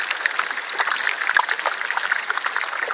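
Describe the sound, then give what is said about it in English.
Melting iceberg ice crackles and pops underwater without pause as gas bubbles out of it, a dense fizz of countless tiny sharp clicks over a steady hiss, with a few louder pops standing out. No voices. “It was quite something here, and that popping, crackling, it was constant, constantly cracking and popping.”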